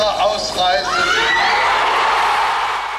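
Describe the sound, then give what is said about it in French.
A crowd of thousands in a garden roars and shouts euphorically as Hans-Dietrich Genscher announces their immediate departure for the West, many voices overlapping into a loud, sustained wall of cheering that swells early and then holds steady throughout. “Sa voix est noyée sous les cris de la foule euphorique.”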